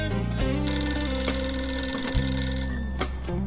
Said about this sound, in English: 4 a.m. That was the time when the phone rang.